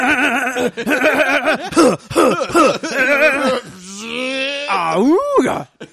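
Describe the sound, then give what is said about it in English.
A voice imitates a car engine struggling to start: a fast run of sputtering, wobbling vocal bursts, then a longer groaning hum that sweeps up in pitch before cutting off. “You sound like a car trying to start up.”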